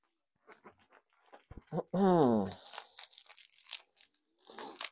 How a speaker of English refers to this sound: Right, let's put these scissors in here.